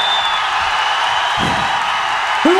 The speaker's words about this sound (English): What we're going to do is you're all going to start cheering